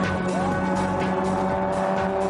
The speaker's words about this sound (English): the Destroyer's car is losing power. It sounds like that old Jeep engine has had enough Grand Prix punishment